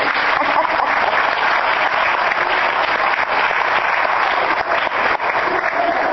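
Sustained applause from an audience, a dense, steady wash of many hands clapping at an even loudness for several seconds, with no voices standing out.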